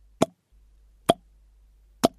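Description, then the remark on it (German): Water drips three times at a slow, even pace, each drop a short, bright plop ringing around a mid pitch, with near silence and a faint low hum between drops. “War da irgendwas undicht? Chloe kam oft nach hier unten, wenngleich widerwillig, und hatte dabei noch nie Wasser gehört.”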